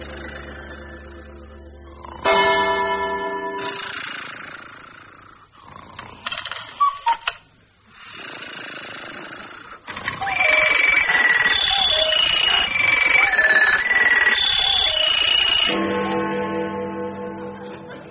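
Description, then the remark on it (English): A clock's bells ring out loudly, chiming a stepped melody of clear tones before a deep resonant strike sounds one o'clock, with mechanical clatter between and no one speaking. “Must be 1 o'clock.”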